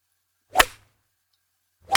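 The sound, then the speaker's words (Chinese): Two sharp, whip-like swishes of a teacher's pointer cutting through the air, each a quick loud crack, separated by a second or so of silence; the second cut off at the end. “你最好给我如实回答，否则的话，我手里的教鞭可不是吃素的。”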